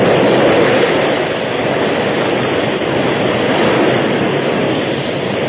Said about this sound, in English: the flood rushed by. Hungry waves broke at the very feet of the horses.